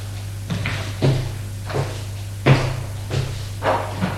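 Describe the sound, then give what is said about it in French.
A door in a house is struck repeatedly with a shoulder to force it open: about six heavy thuds at a steady, slightly uneven pace, each with a short rattle, over a constant low hum. No one speaks. “La porte n'a pas été abîmée.”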